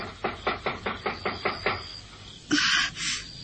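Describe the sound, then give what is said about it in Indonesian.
Seven quick, evenly spaced knocks rap on the wooden door of a remote hideout house, moderately loud, followed by a short burst of louder scraping or rustling. Nobody speaks. “Percakapan antara Nyai Sakyamurti dan Warapalupi terhenti oleh suara ketukan pintu.”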